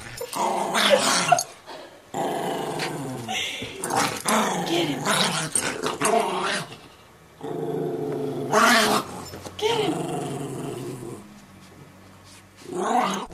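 Two dogs, Frankie and Memphis, growl and snarl almost nonstop in happy play-wrestling, loud, with rising and falling rumbles broken by a few brief pauses.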